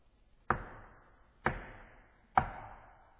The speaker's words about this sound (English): Caiaphas is startled. Who's knocking on the door at this hour?